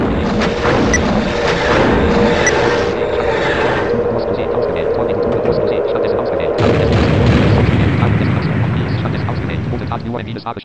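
A loud video game explosion rolls into a long, dense roaring rumble that holds steady, then a second heavy blast surges in about two-thirds through before the noise slowly thins.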